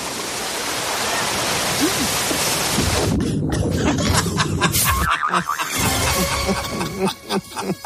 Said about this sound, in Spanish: Se cayó. Se cayó al agua. Con el micro y todo.